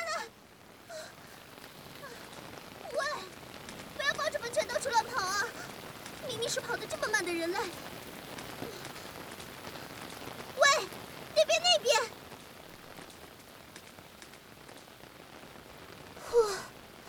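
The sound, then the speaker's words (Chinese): Steady rain, falling suddenly after sunshine, patters across a surface in a constant hiss, heard while sheltering under a narrow eave, with a few short, breathy vocal sounds breaking through now and then. “天气啊，刚才还阳光普照呢，这会儿又下雨了，都怪你非要跑出来玩，这下好了，只能躲在这么狭小的屋檐下。”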